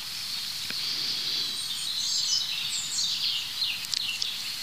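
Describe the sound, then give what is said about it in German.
A European robin sings a continuous, high, tinkling warble of varied trills and thin whistles, heard fairly softly with no voices present. “Das heißt fast, ich kann mich nicht satt hören an diesem Gesang. Und dazu ist das einfach ein super spannender Vogel, das Rotkehlchen.”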